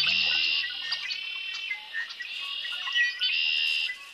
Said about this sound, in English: A male red-winged blackbird sings loudly from his perch. The various perches he'll choose will mark out his breeding territory.